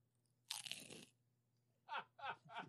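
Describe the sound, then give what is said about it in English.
A loud crunch as someone, eating one-handed, bites into a cracker with cheese, followed after a short pause by three rhythmic chewing crunches. No one speaks. “So I'm trying quietly to get cheese onto a cracker.”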